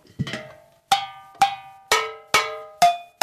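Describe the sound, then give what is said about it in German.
About seven clay flower pots, used as percussion, are struck one after another, each giving a bright clink with a short ringing tone. The tuned pitches shift from strike to strike at a steady, unhurried pace, with no talking. “Irgendwelche Blumentöpfe nehmen.”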